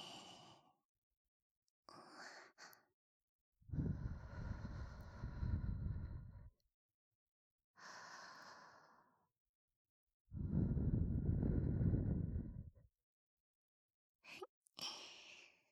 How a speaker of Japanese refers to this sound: それじゃ最後はお耳ふうふうしてあげるね。